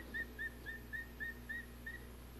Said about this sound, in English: Yeah, he'd rather whistle than eat, I think.